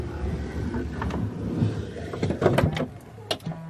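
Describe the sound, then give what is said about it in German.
A car's power sliding rear door, closed at the push of a button, glides shut with a steady motorized whir, then a few rattling clicks and a firm latching thud near the end, with no talking. “Wir machen mal die Tür zu, das geht natürlich ganz einfach. Nur auf den Knopf drücken.”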